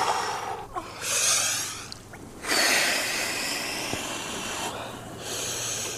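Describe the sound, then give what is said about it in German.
Slow, calm, deep breathing from a man standing in water up to his neck, still holding onto a ladder: long airy inhales and exhales in an unhurried rhythm, about three breaths, with no talking. “… ist im Wasser bis zum Hals, hält sich noch an der Leiter fest und atmet ganz ruhig und tief”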